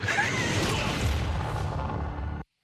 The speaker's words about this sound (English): Some sort of explosion there. It's kind of animal noise.